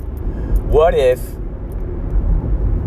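car interior noise

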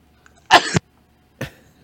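sneeze

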